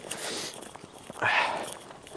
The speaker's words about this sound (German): Ich weiß nicht, hört man so schön hier den Schnee knirschen? Weiß ich nicht, ob ihr das hört. Sagt mir, wenn es so ist.